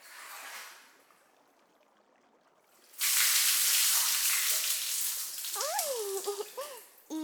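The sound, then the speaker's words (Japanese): After a quiet moment, hot water is poured over someone to rinse off soap suds in a loud, steady splashing rush that lasts about four seconds, with a few brief high, squeaky tones near the end. “はい、お湯をかけますからね。”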